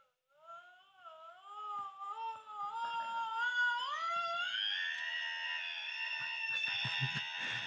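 A screaming alarm clock lets out one long, wavering, wailing scream that climbs in pitch and grows louder, ending in a shrill, sustained cry with some rattling underneath.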